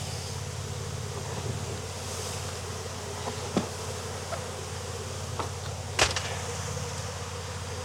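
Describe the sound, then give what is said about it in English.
A steady, dense hum of many honeybees buzzing around an open hive during a beekeeper's inspection, continuous throughout, with a few sharp clicks and knocks breaking through and a light wash of wind noise. “Right, so we got some bees.”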